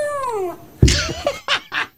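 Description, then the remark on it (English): A dog named Lorna makes a drawn-out, talking-like vocalization meant to sound like "hello": a falling whine, then a loud burst and a few short, wavering yowls in quick succession. “Lorna the dog says hello.”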